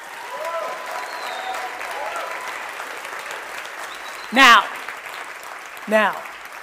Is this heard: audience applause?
yes